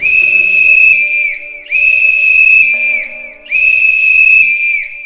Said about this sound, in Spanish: El tecolote de la esquina inmediata lanza al viento su silbato de alerta, y a ese silbato siguen otros y otros más de todos los tecolotes del barrio y de todos sus colegas de la enorme ciudad.